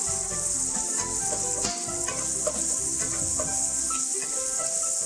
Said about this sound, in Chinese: 油已经很热了哈，你不需要再等了，就把这个洋葱呢直接呢加进去呢爆香。